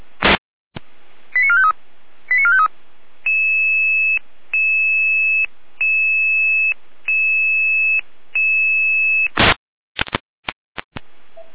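Dispatch radio alerting tones for an emergency call-out to district road 127 near Oberköditz: a string of steady electronic beeps in evenly spaced bursts, loud, bracketed by short chirps and static clicks, with no voices.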